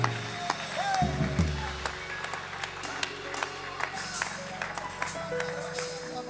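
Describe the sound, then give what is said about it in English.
A crowd claps their hands in praise during a worship service, a steady, scattered stream of sharp claps lasting throughout, with a low sustained tone and faint voices underneath. “Come on, somebody give him a shout of praise and clap your hands.”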